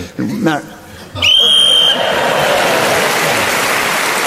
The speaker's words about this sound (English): That long pause before the whistle was because